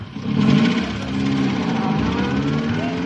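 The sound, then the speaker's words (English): The engine of Jones's van, loaded with grenades including a live one, turns over and roars to life, then settles into a steady, low rumbling drone whose pitch climbs gradually as the van drives off. “Jones is driving off with a live grenade in the van.”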